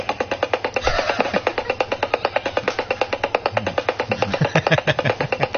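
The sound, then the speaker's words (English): A helicopter sound effect superimposed at the end of a video clip of a woman: the rotor chops steadily in fast, even pulses throughout, loud and constant, with her faint voice showing through underneath near the end. “Okay, she's got a terrible stutter, and then what they do is they superimpose a helicopter on her at the end.”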